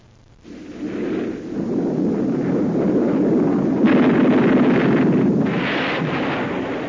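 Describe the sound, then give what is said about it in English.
An F-86 Sabre jet fighter, built by North American Aviation, roars in actual combat in Korea: a loud, sustained engine roar with a rumbling, crackling texture that swells in, holds steady, and gains a harsher hiss in its second half. “That was an F-86 Sabre jet fighter in actual combat in Korea.”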